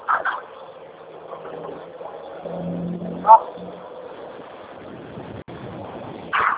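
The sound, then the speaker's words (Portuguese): A truck engine drones past on a street, a steady low rumble with a deeper growl swelling midway, heard through a phone-like mic, with brief voice fragments at the start and end. “Caminhão faz um trator, fala, filho, desculpa.”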